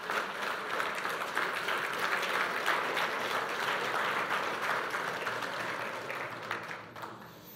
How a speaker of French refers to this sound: Est-ce qu'on peut applaudir et honorer les mamans, s'il vous plaît, ce matin?